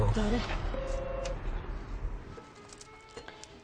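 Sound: doorbell ringing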